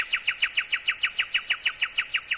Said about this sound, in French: Alors le rossignol chanta pour Lieuse, et sa voix était comme l'eau jaseuse d'une fontaine argentine.